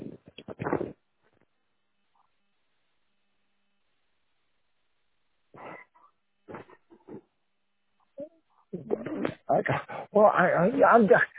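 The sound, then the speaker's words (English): A dog close by, trying to lick a person's ear, whimpers and gives short, high yips in scattered bursts separated by quiet gaps, then becomes louder and more continuous toward the end. “I got the fucking dog over here trying to lick my ear.”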